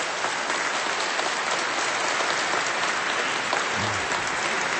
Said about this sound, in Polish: Tu potrzebne są wielkie brawa, bo dzięki księdzu kanonikowi właśnie Radio Maryja tutaj na terenie Bydgoszczy zaczęło nadawać i nadaje do dnia dzisiejszego.